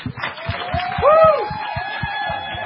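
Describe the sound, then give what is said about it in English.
An audience breaks into steady applause mixed with cheering, a sharp rising-and-falling whistle cutting through midway, while a regular low thumping pulses underneath throughout. “So please join me, and let's give a nice, warm round of applause”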